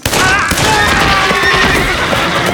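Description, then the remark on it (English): Frightened horses rear, neighing and whinnying shrilly amid a loud, chaotic din of sudden gunfire, with sharp bursts and crashes filling the short stretch as riders are thrown from their saddles. “Horses were rearing in fright.”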